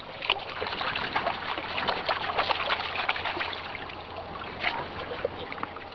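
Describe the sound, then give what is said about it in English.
Water sloshing and splashing in quick, uneven bursts as a sieve is bounced up and down in shallow water to wash the muck out, steady throughout with no talking. “Bounce them up and down in the water and get all that muck out of there.”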